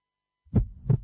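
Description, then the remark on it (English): After a brief silence, a single deep heartbeat thumps twice in quick succession, a low, muffled lub-dub that sounds fairly loud, with no voices. “Every journey starts with a heartbeat.”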